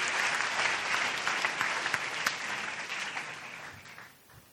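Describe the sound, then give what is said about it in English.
A church audience gives God a round of applause, a dense wash of many hands clapping steadily for several seconds before thinning out and fading toward the end. “Can we give God a big, big round of applause?”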